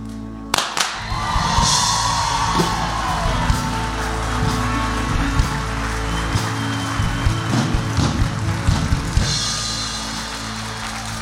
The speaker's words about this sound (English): That's good, that's good. We want to cheer like that every time people come out of the water.